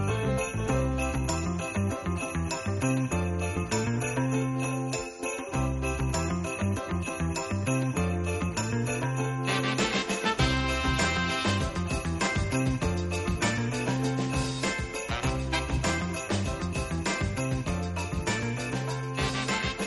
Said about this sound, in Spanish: Son las 12 y 6 minutos de la mañana y lo que escuchan son las campanadas tradicionales de la Puerta del Sol, que como cada año pues despiden el año en curso y se da la bienvenida al siguiente año.